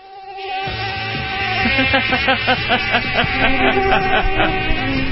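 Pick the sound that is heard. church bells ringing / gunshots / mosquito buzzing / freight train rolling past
mosquito buzzing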